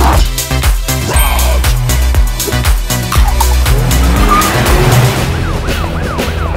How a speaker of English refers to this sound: This just in. It appears the suspects were able to evade the police as officers stormed the building by escaping in a getaway car.